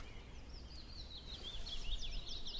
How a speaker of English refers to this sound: That's a willow warbler.